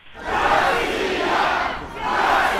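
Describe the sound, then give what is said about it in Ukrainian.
A large crowd at a street rally shouts together in a loud, sustained roar of many voices, briefly dipping before surging again, like protesters chanting and yelling outdoors. “Послухаємо звукову картинку з мітингу.”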